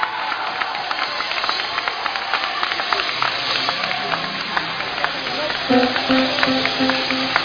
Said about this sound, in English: Come on, clap for Jesus.